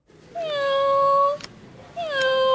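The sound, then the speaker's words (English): A robotic toy cat, stroked by hand at an exhibition in Oxford, England, gives two drawn-out, evenly pitched mews, clear, with a small mechanical click between them and no talking; the toy is used to help patients with dementia. “I'm sitting by a fake cat. If I stroke it, it mews at me.”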